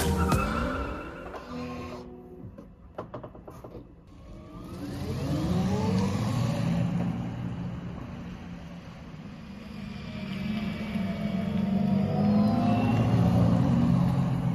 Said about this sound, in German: Heute mit einem großen Auto und es ist bunt und es klingt so. Der Sound.